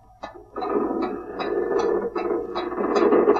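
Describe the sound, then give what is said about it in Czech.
A drawbridge being lowered on chains, with a steady mechanical grinding broken by regular rattling clanks of the chain links, like a ratchet catching, fairly loud with no voices. “Právě přijel padací most.”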